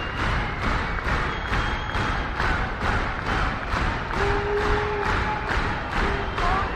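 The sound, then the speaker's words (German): A concert audience claps in unison after a Stravinsky piece, with a steady, fairly quick beat, about two claps per second, with cheers and a few whistles rising over the rhythmic applause, wanting more. “Wenn Leute so rhythmisch klatschen, dann heißt das, sie wollen noch mehr.”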